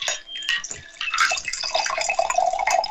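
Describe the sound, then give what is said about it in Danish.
A drink of orange, sea buckthorn and sparkling water with spirit pours steadily into a chilled wine glass, a bubbly trickling stream with bright splashes and rising pitch as it fills, running for a few seconds without any talking. “Nå, men så har jeg fundet det dejlige afkølet vinglas frem, som vi lige hælder op i.”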